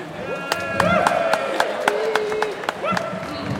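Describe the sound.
Scattered audience applause: a dozen or so sharp, uneven claps ring out over a steady murmur of crowd voices and a few raised, cheering tones, lasting a few seconds.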